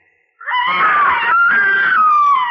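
A loud, sustained high-pitched scream from a boy up in a haymow, starting abruptly and holding for about two seconds with a slight break midway, heard alone without speech.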